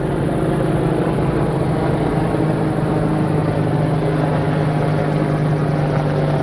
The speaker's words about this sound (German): Auch wirklich zwei riesigen Riesenbrocken von Hubschrauber, die da gerade über mir wegfliegen. Ziemlich tief.